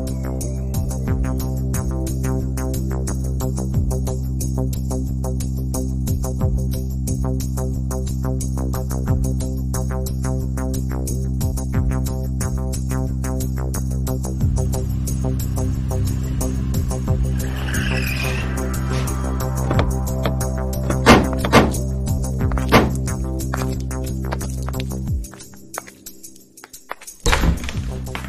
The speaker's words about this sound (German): Bis nach Salerno sind es einige Meter. Wir nehmen das Auto.